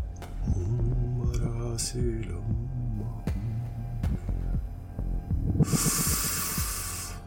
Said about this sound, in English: He closes his eyes and he does some deep, shuddering, meditative breaths. And he's humming slightly.